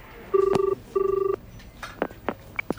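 A telephone line rings twice in the classic double-burst pattern as a held caller is put through to an office extension, a steady buzzing tone heard through the earpiece, followed by a few faint clicks as the line connects.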